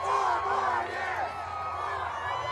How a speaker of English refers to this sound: In Washington, D.C., President Donald Trump, who still has not conceded, took a drive through a crowd of demonstrators who came to support him as he headed off to his Virginia golf course.